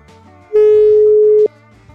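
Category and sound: signal or alarm, phone busy tone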